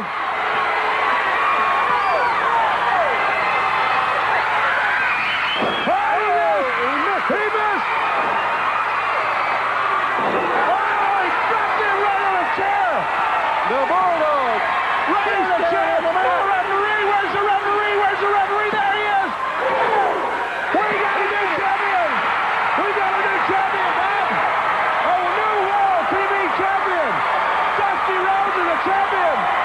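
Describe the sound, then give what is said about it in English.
A packed wrestling arena crowd roars and cheers wildly as a steel folding chair is found under the ring, with whoops, shouts and scattered voices rising and falling continuously, loud and dense throughout, punctuated by occasional sharp slams. “There's a steel folding chair and the fans are going nuts.”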